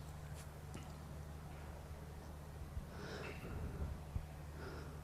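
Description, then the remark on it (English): A black Labrador sniffs and circles another dog it is meeting, with a few short, breathy snorts and sniffs, fairly faint, over a steady low background hum. “He's just still doing the sniffing and circling, but he's making it very clear he's bigger.”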